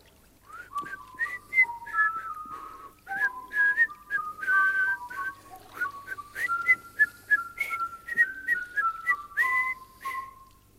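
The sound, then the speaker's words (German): A person whistles a lively, wandering tune alone on a lovely afternoon, with quick bright notes sliding up and down in a steady, melodic rhythm, clear. “Dieser herrliche Nachmittag fordert eine Frau mich zum Pfeifen heraus. Immer pfeifen Sie mit, Meister.”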